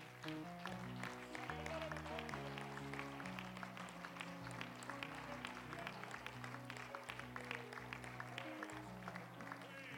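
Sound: audience applauding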